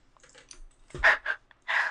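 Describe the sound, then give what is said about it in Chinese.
Soft clicking and tapping of typing on a keyboard, a few quiet taps followed by louder bursts of keystrokes, with no voices. “打字？为什么呀？害怕被发现吗？”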